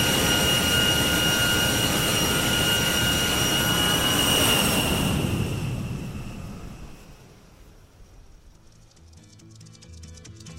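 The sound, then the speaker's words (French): A jet airliner landing at Paris-Charles de Gaulle airport: a loud, steady engine roar with a high turbine whine that swells briefly, then fades over a few seconds to a quieter rumble. No one speaks. “Nous allons procéder à l'atterrissage à l'aéroport Paris-Charles de Gaulle.”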